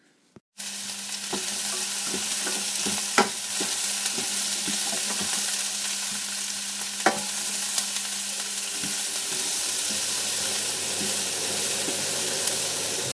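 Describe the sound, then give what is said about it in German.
Steady crackling sizzle of bell pepper strips frying in olive oil until lightly browned, fairly loud, with a few sharp clicks like a utensil stirring the pan; no one speaks. “Jetzt haben wir also die Paprika so angebraten, dass so leicht gebräunte Streifen dabei rauskommen. Das Ganze in Olivenöl gemacht.”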